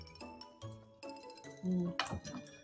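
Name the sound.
glasses clinking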